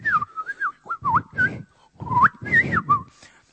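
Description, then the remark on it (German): A person whistles a warbling, birdlike melody in short rising and falling phrases with brief pauses, accompanied by rough, breathy bursts. No one talks. “Ob es jetzt die Vögel sind, die ihr Lied pfeifen, so.”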